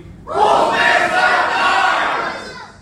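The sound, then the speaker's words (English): A movie theater audience at a Saturday matinee screening on a snowy afternoon shouts together in a loud, sustained group cheer that erupts suddenly and holds for a couple of seconds before tapering off, energetic. “A very lively audience joined us for a Saturday matinee on a snowy Saturday afternoon, and we got a great shout out from our crowd.”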